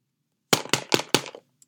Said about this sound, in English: And then there's a loud, loud knock on the door.